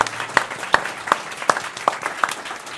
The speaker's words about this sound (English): Give a round of applause for our lovely panel.